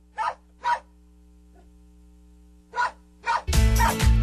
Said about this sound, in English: All right. Dogs barking because we have a story that I think barks up the right tree here.